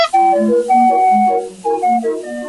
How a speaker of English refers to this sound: All right, so, we forgot to even start the clown car music, because we do have some other clown car stories.